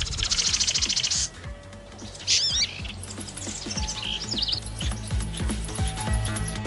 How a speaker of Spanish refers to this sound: Con los sonidos, un pájaro defiende su territorio. Emite una señal que lo identifica dentro de su comunidad. O le comunica a la hembra sus capacidades.